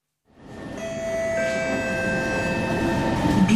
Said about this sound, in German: Die U-Bahn von Singapur. Sauber und effizient. Benutzt wird sie von Menschen aus aller Herren Länder.